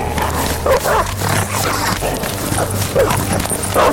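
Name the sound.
dogs barking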